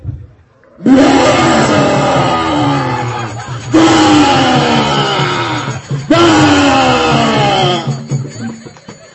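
Three loud, booming roars come from a pillar in quick succession, each a long, harsh, sliding bellow that fills the space, with no talking in between.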